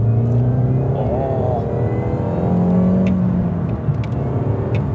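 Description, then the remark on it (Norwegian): A car engine runs steadily, its pitch rising and falling slightly as it revs, with a constant low rumble and a few faint clicks on top. “så langt, ingen problemer med motoren. Nei, den trekker fint og den fungerer”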